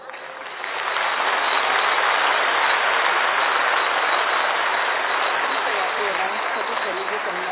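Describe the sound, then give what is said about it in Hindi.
A crowd breaks into applause that swells within the first second and holds steady as a loud, dense wash of clapping for several seconds, tapering only slightly at the end. “ताली बजाना तो आता है ना, क्यों भी भूल गए।”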